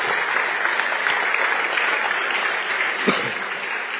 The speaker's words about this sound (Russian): Благодари Бога, аплодисменты.